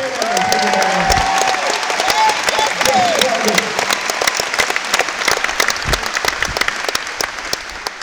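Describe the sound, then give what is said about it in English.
An audience applauds loudly and steadily as the musical director stands up on stage, dense overlapping claps filling the whole stretch, with a few whoops and raised voices rising above the clapping early on before it thins slightly. “So I would like for you guys to make sure you applaud just as loudly every time he stands up.”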